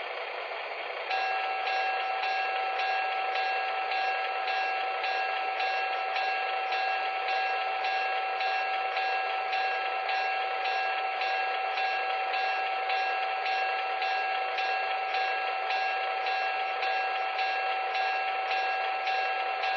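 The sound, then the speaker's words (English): A train arrives on track 1 at Charlottesville, train number 46, rolling along the station track with a steady, dense mechanical rumble and faint tonal whine, holding an even loudness throughout with no voices. “Charlottesville on track 1. Train number 46, the Jesse Larner.”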